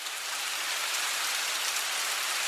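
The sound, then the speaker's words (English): Steady rain falling outdoors next to the Tomb of the Unknown Soldier, guarded by evzones, a dense continuous hiss of drops pattering on surfaces, fairly loud, with no voices or other sounds over it. “On the day I visited, it was raining.”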